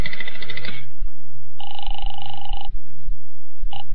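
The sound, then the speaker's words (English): A telephone is dialed to call a hotel with a quick burst of mechanical clicks and jangling, then a steady electronic ring tone sounds for about a second and starts again briefly, clear. “I'll phone the hotel.”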